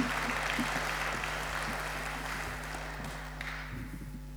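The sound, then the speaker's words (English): An audience applauds steadily for several seconds, a dense, even patter of many hands clapping with a low background hum, tapering slightly toward the end. “Give them all a round of applause for helping me.”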